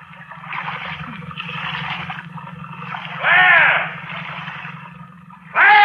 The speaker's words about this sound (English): Stop paddling.